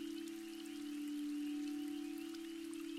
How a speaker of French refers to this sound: Pendant cette méditation, nous allons être accompagnés par ces subtils sons de la pluie et par les vols chantants.